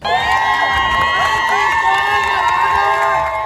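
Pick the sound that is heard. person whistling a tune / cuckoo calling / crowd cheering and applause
crowd cheering and applause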